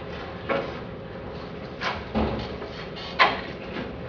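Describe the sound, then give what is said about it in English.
A door swings shut at the end of a lecture, with a few soft thuds and knocks spread over several seconds and one sharper clunk near the end. “would you mind closing the door? And actually, if someone could get that door too”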